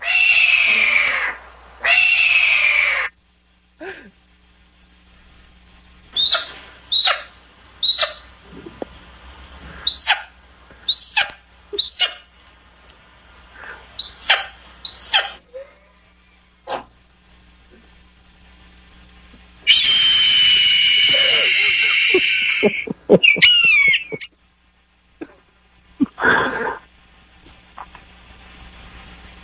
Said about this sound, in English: Fantastic. Where'd you get all these birds from?